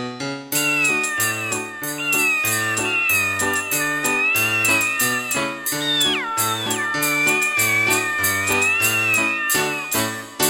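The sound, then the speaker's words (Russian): Cat meows rise and fall in pitch like a melody over a steady, bouncy musical accompaniment, a cheerful tune of cats singing, as in Kuklachev's Cat Theatre, loud and continuous throughout with no talking. “В кошачьем театре Куклачева кошки и танцуют, и спектакли разыгрывают, и даже поют.”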